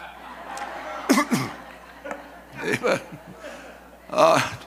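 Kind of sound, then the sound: human body sound, throat clearing and coughing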